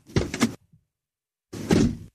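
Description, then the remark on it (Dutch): A car door shuts twice, each a solid, full-bodied thunk with a short rattling tail, separated by about a second of silence. The door's sound is artificially made through sound design. No one speaks. “En dan tot slot een onderzoek naar het geluid van een autoportier.”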